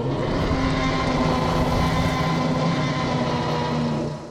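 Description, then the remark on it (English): Air rushes steadily through the tubes of an air-powered delivery system, a continuous loud whooshing roar layered over a low, droning mechanical hum, holding even for the whole stretch before easing slightly at the end. “That's not water flowing through these tubes. It's air. It's some sort of air-powered delivery system.”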